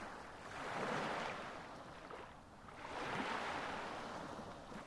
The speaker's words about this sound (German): Du beobachtest die sanften Wellen, die an den Strand rollen und den Sand benetzen. Du lauscht dem sanften Rauschen der Wellen und blickst auf einen weiten Horizont.